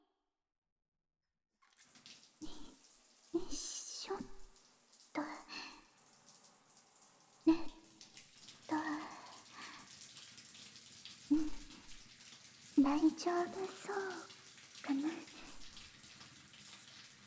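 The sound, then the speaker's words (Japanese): Shower water runs in a steady hiss over hair, lightly wetting the hair before it is washed, broken by irregular splashing bursts and soft patters. A voice murmurs briefly and quietly partway through. “最初軽くシャワーで髪を濡らしますね。”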